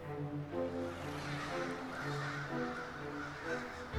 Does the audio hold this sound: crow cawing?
yes